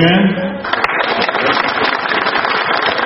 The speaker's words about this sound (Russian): Аплодисменты, затем начало охоты первых покупателей за дешевыми товарами.